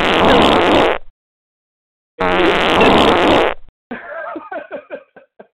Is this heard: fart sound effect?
yes